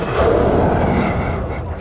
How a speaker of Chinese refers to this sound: 你能听到它的这个呼吸声，它的呼吸也好，它尾巴的一个摆动也好，给我的感觉是它不断的在传递出一种求生的一个信号，就是告诉我们它还活着。